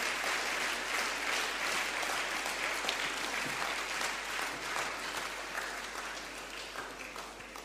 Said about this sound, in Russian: Давайте, аплодисменты Богу.